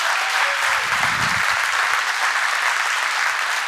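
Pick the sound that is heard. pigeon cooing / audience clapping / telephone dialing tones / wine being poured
audience clapping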